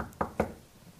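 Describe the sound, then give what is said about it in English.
Two quick, firm knocks on a door, evenly spaced, followed by a quiet pause with only faint background noise. “I and my father will go to Mary's door and knock.”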